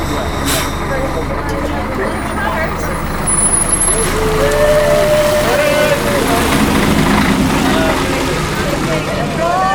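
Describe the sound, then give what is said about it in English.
A large bus rumbles with a sharp hiss of air brakes near the start, its engine whining and rising as it pulls away on a dark, frosty January morning at 6:30 a.m., taking students to Dublin, while indistinct voices murmur in the background. “On a frosty January morning at 6:30 a.m, it is still dark as the students head off on the bus to Dublin.”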